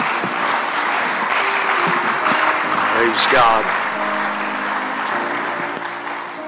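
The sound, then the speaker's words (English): An audience gives the Lord a hand clap of praise, clapping steadily in a dense, sustained burst of applause lasting several seconds, with a voice briefly calling out over the clapping before it begins to fade. “Can we give the Lord a hand clap of praise as Dad comes tonight?”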